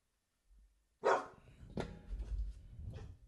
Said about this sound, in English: And if my dog's barking, that means take the dog. With my dog barking, that means take the dog.